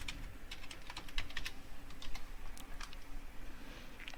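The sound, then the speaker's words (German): Rapid, irregular clicking of keys on a computer keyboard as an administration password is typed during a software setup, a steady run of crisp taps over a low background hum, with no talking. “Jetzt müssen wir ein Verwaltungspasswort, Administrationspasswort vergeben.”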